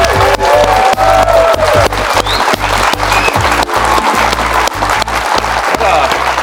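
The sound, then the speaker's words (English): Loud, sustained applause from the studio audience in Studio C on the TV show BYU Football with Kalani Sitake, with dense clapping mixed with cheers and whoops, holding steady throughout without a break. “What a great crowd here in Studio C tonight.”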